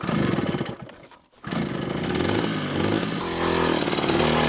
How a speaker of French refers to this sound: On est à moto là, qu'est-ce qu'on fait? On va à la plantation. Chaque fois que vous revenez au champ, c'est à moto? Oui, je viens à moto.